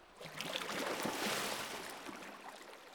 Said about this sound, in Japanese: それではお湯かけますね。